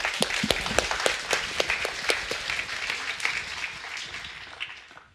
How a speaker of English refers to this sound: That was Alex Bregzassi. He's our team lead. One more round of applause for Alex.